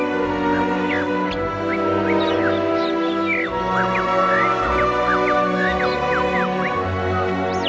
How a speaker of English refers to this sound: One end of the syrinx opens into one bronchium, and the other end into the other, and both of these channels are able to produce sounds. This permits the bird to produce two notes at the same time, and even to sing a duet with itself.